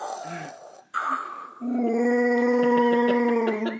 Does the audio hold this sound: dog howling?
yes